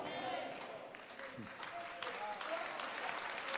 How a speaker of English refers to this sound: Thank you for clapping.